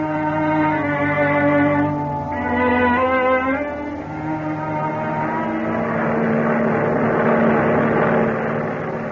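A loud, steady engine drone of a transport airplane flying through the sky at high speed, about 150 miles an hour, with rich humming tones that waver slightly in pitch and stay constant the whole time, with no voices.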